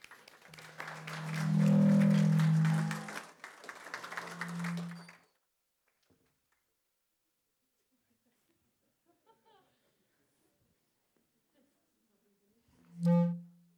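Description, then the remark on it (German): A burst of audience applause welcoming a show's guest, with a loud cheering whoop over it, lasts about five seconds, then cuts to near silence, followed by a brief voiced sound near the end. “Egal, einen kräftigen Applaus für unseren Gast.”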